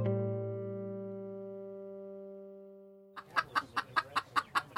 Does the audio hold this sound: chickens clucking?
yes